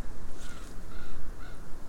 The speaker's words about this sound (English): Oh, there's a raven coming.